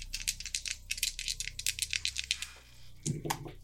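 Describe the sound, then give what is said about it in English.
Dice rattle and clatter in a quick, irregular burst of sharp clicks lasting a couple of seconds, then stop. A short voice sound follows at the very end. “Roll plus steam.”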